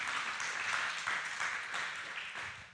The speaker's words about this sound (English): Come on, give the Lord a hand clap.